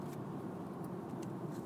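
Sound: road traffic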